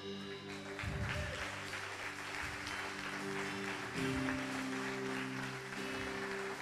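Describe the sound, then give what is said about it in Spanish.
A crowd claps steadily, a dense unbroken patter of applause over sustained keyboard chords that hold and shift beneath it, with no one speaking. “¿Se te acabaron las palmas?”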